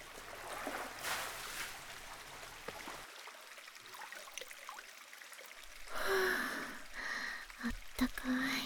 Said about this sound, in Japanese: 先にシャワーざっと浴びるね。